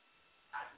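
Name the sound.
small dogs barking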